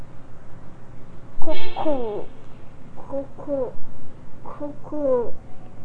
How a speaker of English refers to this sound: Cuckoo.